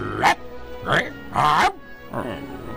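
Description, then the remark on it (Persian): A voice imitates a dog barking loudly, four forceful woofs spaced about half a second apart, with brief gaps between them and nothing else going on. “اسپارکی خرید رو پاهاشو به طرف بامپر دوید، اون داشت با صدای بلند پارس میکرد.”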